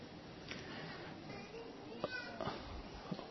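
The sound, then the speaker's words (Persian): A young, distressed child cries out in short, strained wails in the background, faint, during a religious lecture. “خانم ببخشید، اون بچه داره زجر میکشه”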